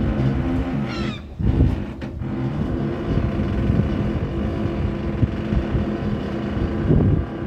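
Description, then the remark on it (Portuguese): Wind and sloshing water around a boat anchored at a marina on the Adriatic with its gangway set up, rocking on the swell, a steady rumble with a brief creak early on and no voices. “Barco ancorado com a passadeira montada e a dançar ao ritmo da ondulação.”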